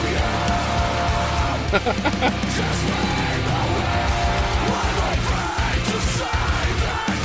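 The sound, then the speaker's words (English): A crowd of voices sings together loudly and continuously, a full, dense chorus with rising and falling melodic lines, steady throughout without pauses. “What about group singing?”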